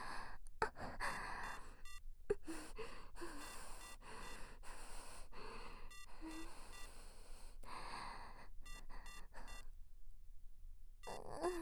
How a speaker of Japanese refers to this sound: また電話。